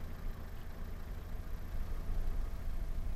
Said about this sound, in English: We heard nothing but the sound of my engine. No wind, no rain, no radio, no breathing. We heard nothing.